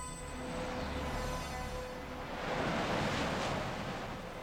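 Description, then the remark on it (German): A shower runs with a steady, continuous rushing hiss of falling water, swelling a little louder partway through before settling back. No voices are heard. “Es rauschte. Wahrscheinlich stand Onkel Titus unter der Dusche.”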